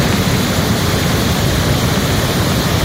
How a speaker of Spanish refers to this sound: Es el sonido de un vídeo que puedes ver en nuestras redes sociales y que muestra el hundimiento de esta carretera que une ambas capitales de provincia, un socavón en uno de sus tramos y que ha provocado que conductores se hayan visto atrapados